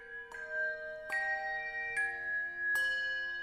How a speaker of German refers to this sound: Wenn dort also die Kinder ihre Spielsachen rütteln und schütteln, dann läuten die Glöckchen aus Nürnberg. Ja, die Welt ist Klang. Nürnberger Glockenklang.